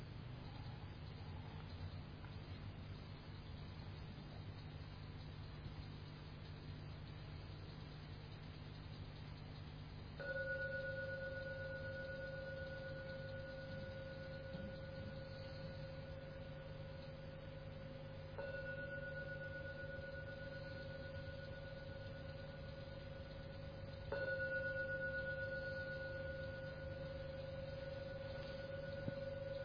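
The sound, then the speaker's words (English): Three strokes of a gong, spaced several seconds apart, each blooming into a long, steady metallic hum that rings on until the next strike, over a low background drone. “Please be patient to listen to every sound of the gong.”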